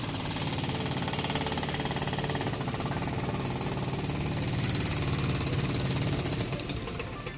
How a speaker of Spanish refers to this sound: Es el sonido de una minipala equipada con un martillo actuando también ya sobre la superficie de la Plaza de Armas, es decir, ya tenemos plena actividad en la Plaza de Armas